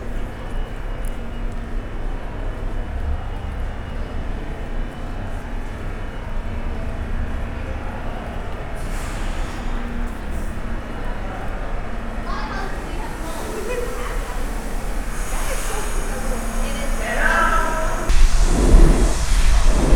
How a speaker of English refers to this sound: Brooklyn-bound express train on the other platform across the way.